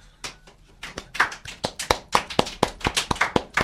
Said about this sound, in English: Surely far more muted applause than he deserves, but there's not many of us here, you see, so the applause will be much more.